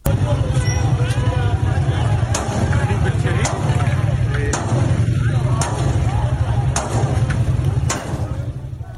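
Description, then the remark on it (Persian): Sharp cracks of continuous gunfire by security forces ring out repeatedly at irregular intervals, some loud, over a constant roar of crowd noise and shouting in a street during water-shortage protests in Khuzestan, Iran. “در ویدیوهای منتشر شده از این اعتراضات شلیک مداوم ماموران امنیتی دیده می‌شود.”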